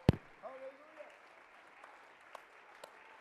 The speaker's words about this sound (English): Let's clap our hands for victory for a minute. Shall we?